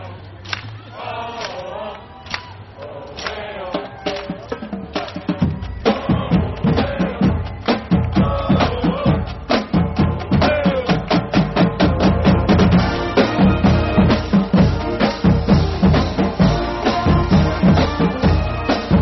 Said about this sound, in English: And now let's listen to the band.